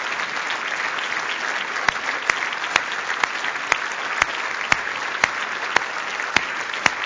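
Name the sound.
audience clapping loudly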